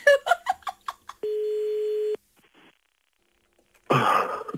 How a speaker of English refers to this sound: We're calling him right now. It is very early, but he promised on one condition that if we sent him, that he would answer the phone when it's like 20 past 5 in the morning. Let's see. So here we go.